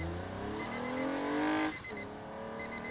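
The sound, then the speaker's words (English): A new Toyota car engine revs up loudly with rising harmonic tones while cruising the open road, then drops off sharply before settling into a steady lower drone, continuous with no voices. “That's me awakening after a long winter's nap, cruising the open road in my new Toyota.”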